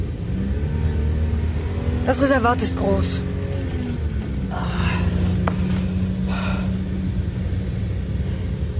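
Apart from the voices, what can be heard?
car engine rumbling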